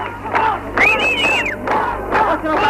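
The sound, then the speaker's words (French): A crowd shouts and cheers in the street of the town of Boufarik as the Algerian national army enters, around 2 p.m., many voices overlapping in a loud, continuous roar, with one high sustained yell rising above the rest partway through. “Le déjeuner n'est pas terminé, des cris dans la rue, un bruit de moteur, l'armée nationale algérienne fait son entrée dans Boufarik.”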